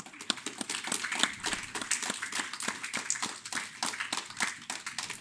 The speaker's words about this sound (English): What I would like to do is just take a moment to honor our mothers. And so if you are a mom in the room, please stand up right now. Go ahead. Yeah, it's a beautiful thing. Let's clap for them.